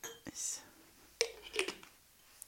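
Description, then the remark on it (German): A few quiet glass clinks, a toast, in fairly quick succession, with soft breathy rustles between them and no clear talking. “Wir, liebe Leute, wir stoßen jetzt einfach nochmal an.”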